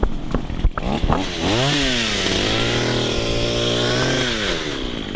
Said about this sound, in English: If you walked the trail at Lake Fayetteville on a cloudy morning late last month, maybe you heard the sounds of a chainsaw through the trees and brush. But good luck finding the source.